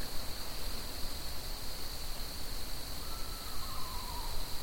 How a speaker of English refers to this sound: It's a bird. Is it a bird? That's an owl, I think. Almost sounds like a horse.